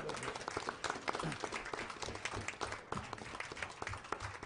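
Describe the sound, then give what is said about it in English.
Steady applause from an audience for the accounting staff, who are standing up; dense overlapping claps forming a continuous crackling wash at even loudness, with faint murmuring voices mixed underneath. “If you guys, instead of just raising your hands, if you could stand up for a second and let's applaud the accounting staff here.”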